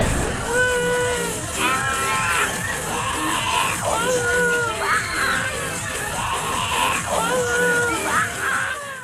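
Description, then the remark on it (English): A live audience screams and shrieks continuously, many high voices overlapping in rising and falling wails that swell in repeated waves, loud, with no clear speech. “We are travelling a little bit behind schedule today, ladies and gentlemen, so please put on your seatbelts and scream if you want to go faster.”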